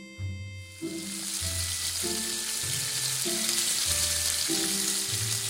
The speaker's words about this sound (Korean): 쌀을 불려놓고 후추, 마늘, 간장, 참기름으로 미끈한 고기를 팬에 살짝 볶는다.